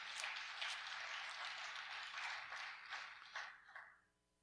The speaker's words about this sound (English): Come on, you got a hand clap for that.